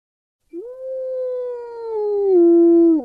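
A dog lets out a single long, sustained howl that holds steady, then drops slightly lower in pitch and grows louder toward the end, with no voices present.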